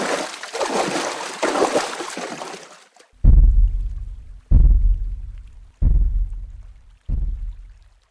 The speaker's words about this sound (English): I heard the splash as it returned across the river, and the sound died away into the distance, in the direction from which it had come.